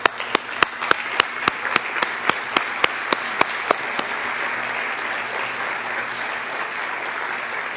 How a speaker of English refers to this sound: Would you do me a favor? Just stand your feet and let's give them a hand clap.